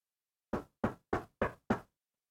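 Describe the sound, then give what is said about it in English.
Five firm knocks on a door in a quick, even rhythm, each a sharp thud with a short decay, fairly loud with silence around them. “Come on, I know you're in there.”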